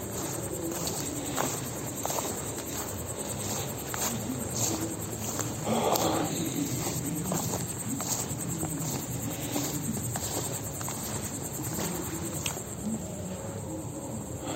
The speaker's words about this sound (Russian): Вот тут, наверное, трава. Так, можете пока насладиться звуком сверчков, объемным звуком.